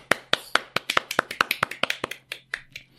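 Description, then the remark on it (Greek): A single person claps alone to celebrate announcing a giveaway winner, about sixteen sharp, bright claps in a quick, slightly uneven rhythm that slows and softens toward the end. “Έχουμε νικητή, κάτσε να χειροκροτήσω.”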